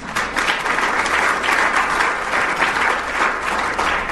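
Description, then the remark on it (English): Sustained audience applause for Senator Raul at an Attorney General campaign evening, a dense, steady wash of many hands clapping at an even loudness throughout, with no break or talking over it. “So please give Senator Raul a round of applause.”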